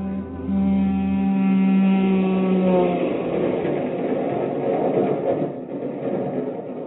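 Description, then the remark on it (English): A train rumbles steadily along, with a loud drawn-out horn-like tone in the first few seconds giving way to a continuous broad clatter and hiss of motion. No one speaks. “I guess, Father, you're wondering what I'm doing on this train.”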